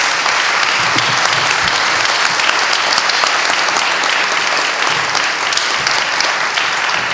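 A crowd applauds steadily for several seconds, a dense, even wash of many hands clapping at a sustained loud level with no voices standing out.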